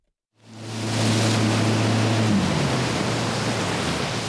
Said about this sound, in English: head out on the waters of Lake Minocqua in a Mastercraft X24. It's a boat designed for wake surfing.